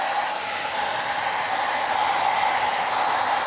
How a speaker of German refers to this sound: Und jetzt könnte man das natürlich einfach trocknen lassen, aber wir haben ja nicht so viel Zeit. Stöpsel doch mal den Föhn ein. Schnell Trockenföhn.